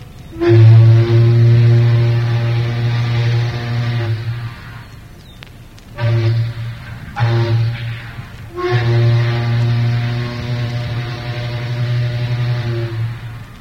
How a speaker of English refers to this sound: What you've just heard is one big single whistle. It is vaguely remindful of the sidewheel Kate Adams down on the Mississippi.